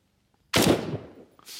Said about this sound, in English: Take, for example, the sound of a gunshot, which the original sound is less than half a second long.